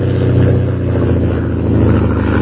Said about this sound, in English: As Jim approaches his camp, a fast plane roars over his head.